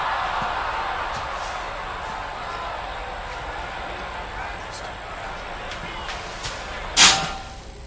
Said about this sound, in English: Joe Cawley is in his old rundown trailer drinking when he hears a knock on his door. Irritated, verging on the edge of violence, Joe runs to the door, slams it open, only to discover Lisa Scarborough standing in front of him.